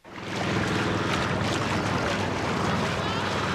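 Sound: river water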